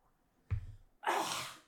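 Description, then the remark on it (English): A throat being cleared: a short, low, gravelly rasp followed by a longer, harsh, breathy burst of air, loud and alone with no talking. “Sorry, I'm just going to clear my throat.”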